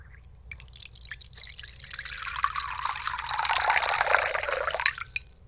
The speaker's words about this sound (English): Let's put some water into the bowl.